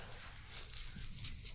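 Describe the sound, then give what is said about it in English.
Keys jangle in a few quick, bright metallic bursts over a low background rumble, fairly quiet, with no one speaking. “Hey, did you find your keys?”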